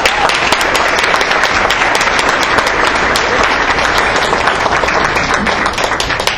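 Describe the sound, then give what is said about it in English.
A crowd in Austin applauds a group of students, gold medal winners, loudly and steadily: a dense wash of many hands clapping at once that holds its level for several seconds without a break. “So please let's give them a round of applause.”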